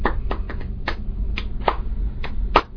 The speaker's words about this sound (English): Perhaps we added the hands, clapping vigorously together, appreciating, yes, yes, a tasty bone broth, or the story of a well-executed hunt. And surely it was useful to discover that predators scurried away from the sharp, sudden thunder of clapping.